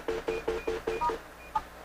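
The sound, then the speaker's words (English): Six quick, evenly spaced desk phone keypad tones beep, then one last tone follows after a short pause, clear and fairly loud with no talking, as call forwarding is turned off for line one of an office phone. “There, I just took the forwarding off of line one, so it won't call my cell phone anymore.”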